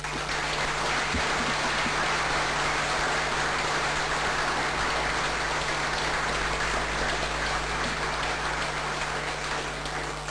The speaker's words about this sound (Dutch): Maar ik wil voor zowel voor de nieuwe burgemeester als voor de waarnemende burgemeester graag een warm applaus.